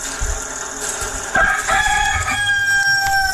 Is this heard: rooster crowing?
yes